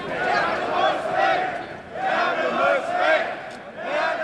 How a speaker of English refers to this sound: After we part ways, a shout goes up through the crowd.